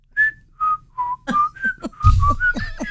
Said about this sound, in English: it's whistle time.